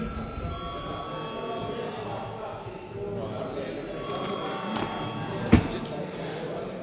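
A parliament bell rings again continuously for several seconds to call a vote on granting urgency to a bill amending the law on budget and financial management, a steady metallic tone over low murmuring, with a single thud near the end.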